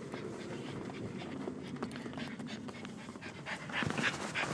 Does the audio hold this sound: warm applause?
no